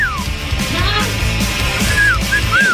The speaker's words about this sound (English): All this week, we have been on a bit of a whistling kick. It's the dumbest stuff on this show sometimes.